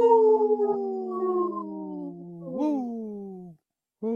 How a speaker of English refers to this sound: This portion of the show is supported by Howling for Wolves, protecting wolves for future generations. Howl! Howl!